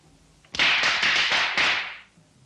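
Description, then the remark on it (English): A rapid string of sharp firecracker pops crackles in the distance for about a second and a half, bursts running together before fading, with no voices over it and only faint background before and after. “Firecrackers?”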